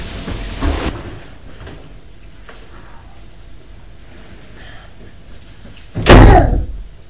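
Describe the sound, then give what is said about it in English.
A door slams shut with a loud, sharp bang near the end, after a quieter knock or shuffle early on and a stretch of low background noise. “Just shut the door then.”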